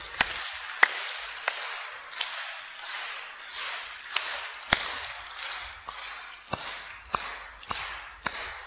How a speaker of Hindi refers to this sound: तो पहले अपन नींद को उड़ाते हैं, दो बार ताली इधर, तीन बार इधर, एक दो।